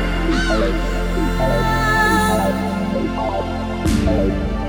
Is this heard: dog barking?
no